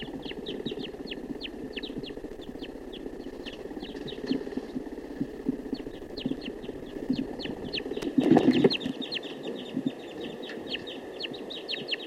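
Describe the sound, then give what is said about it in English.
A wild male bird calls steadily with rapid, sharp, high-pitched chirps repeated in quick runs over a low background hum, broken once by a brief louder rustling burst near the end. “Recording, this is the wild male.”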